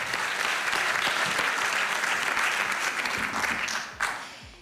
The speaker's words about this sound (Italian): E a questo punto vogliamo sapere però anche che cosa ne pensa la nostra Daniela Morozzi, che ringraziamo con un grandissimo, grazie, applauso.